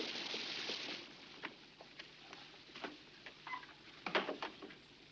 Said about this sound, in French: Excusez-moi, mais avec la pluie, je ne vous avais pas entendu.